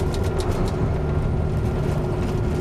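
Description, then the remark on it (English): A steady, loud rumble of a truck moving at speed on an interstate highway, with constant low road roar and faint hissing wind noise throughout, heard from inside the vehicle with no voices. “We got a slow merger. Deal with that as a driver. The merge over the interstate slow.”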